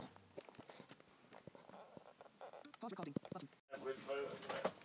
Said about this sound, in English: Did you shut the door? Because when it started moving, it's shut, but it wasn't shut.